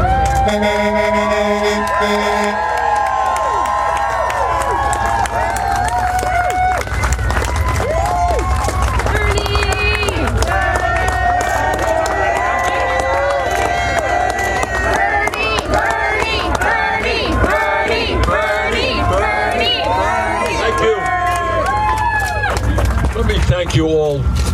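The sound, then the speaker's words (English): A large overflow crowd mills about outside a packed venue in the afternoon, many overlapping voices chattering and calling out at once, forming a loud, steady wash of noise that continues without pause. “are the overflow crowd.”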